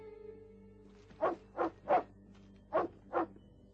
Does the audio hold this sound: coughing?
no